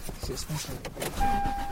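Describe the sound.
Steady low road rumble and engine hum from inside a moving car being driven to a martial arts class, with brief indistinct voices and a thin, sustained electronic tone coming in near the end.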